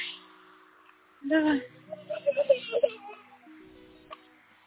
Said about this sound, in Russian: …, ну все, не расстраивайся, что ты плачешь?